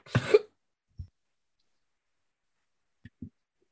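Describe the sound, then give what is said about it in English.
A strained, painful-sounding burp erupts as someone tries to burp through a sip of beer, followed by a few faint, low gulping clicks spaced out in near silence, as if swallowing a drink. “Sorry, I got a nasty burp. I tried to burp through a sip of beer and it's hurting.”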